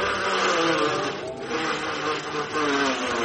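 A car engine starts up as the car is about to be parked in a parking spot, running with a loud, steady, rough drone, its pitch wavering slightly with a couple of brief dips in level. No one speaks.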